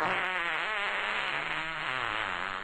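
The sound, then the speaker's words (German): A long, unbroken ferret fart sound effect, buzzy and raspy with a slightly wavering pitch, holding steady and fairly loud for a few seconds with no one talking. “Wenn Frettchen gestresst sind oder Gefahr wittern, geben sie einen Schrei von sich, plustern sich auf und lassen einen fahren.”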